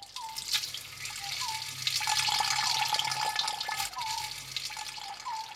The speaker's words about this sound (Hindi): सू सू की आवाज आने लगती है। पानी आता भी है तो बेवक्त। मीठी नींद छोड़कर घर भर की बाल्टियां, बर्तन और घड़े भरते फिरो।